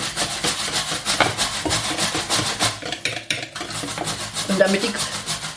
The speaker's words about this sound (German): Und langsam tropfenweise das Kokosfett unterrühren, dass sich das immer schön in die Schüssel bindet. Das muss immer eine cremige Masse beim Rühren sein. Das darf nicht flocken oder sowas. Nein, es muss immer schön cremig sein.